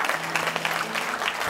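A burst of applause from a crowd, dense overlapping claps sustained at a steady, moderately loud level throughout with no pauses, with a faint low hum underneath.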